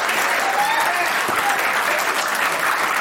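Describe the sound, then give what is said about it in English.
An audience breaks into steady, loud applause, a dense wash of many hands clapping that holds evenly for the whole few seconds, with no voices rising above it. “They just applauded my finger.”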